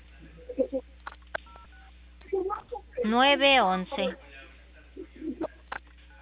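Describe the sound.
Several short electronic beeps from mobile phone keypad buttons being pressed as a caller saves a number on their phone, heard over a thin phone line, with muffled voices and a brief louder warbling vocal sound in the middle.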